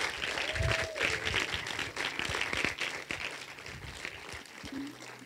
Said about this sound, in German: Lass uns den Leuten mal einen Applaus geben, die ihre Hand hochgehalten haben.